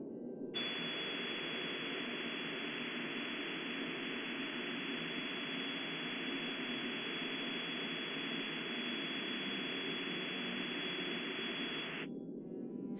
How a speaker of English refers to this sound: So the music specifically that we're playing in this concert deals with audibility by having the instrumentalist play, or the speaker as a person speaking, speak against these walls of white noise.